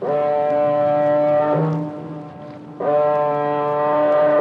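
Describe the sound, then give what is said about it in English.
A car ferry's foghorn sounds two long, deep blasts in fog in the English Channel, the first fading out before a short lull and the second starting abruptly. The tones are loud, brassy and rich in harmonics, with no voices. “A car ferry looms out of the fog in the English Channel.”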